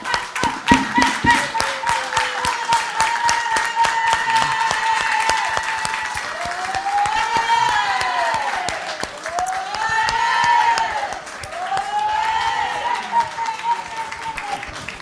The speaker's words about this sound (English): Donc, je vous demande encore de faire un tonnerre d'applaudissements